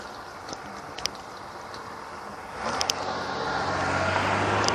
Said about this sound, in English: Here we come to the most contested intersection, and of course there's a car.